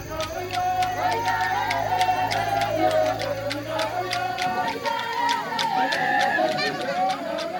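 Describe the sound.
Batwa Pygmy villagers of Liekele-Sole celebrate a priest's arrival with a spontaneous welcome festival, many voices singing and calling out over a steady, fast rhythm of sharp percussive beats, with a low droning tone under the first half.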